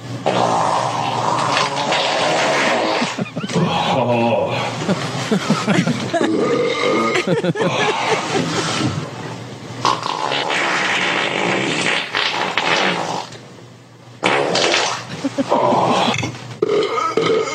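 A long string of loud, wet, rumbling farts from a man in his underwear, pouring out almost continuously with only a couple of brief pauses, nearly filling the whole stretch.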